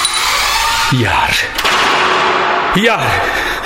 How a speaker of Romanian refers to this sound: Iar ușa aia de la intrare.